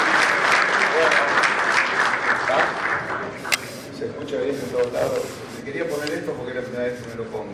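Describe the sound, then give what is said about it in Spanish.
Sustained audience applause in an auditorium, welcoming a speaker to the stage: a dense, steady wash of clapping from many hands that fills the whole clip, with some voices mixed in toward the end. “Recibimos entonces con un fuerte aplauso nuevamente”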